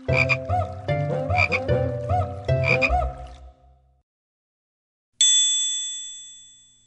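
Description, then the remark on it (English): Frogs croak in a loud, rhythmic series of rasping bursts for a few seconds, then after a brief silence a single bright chime rings out and slowly fades. “So they croaked and they splashed where the quiet pools shine.”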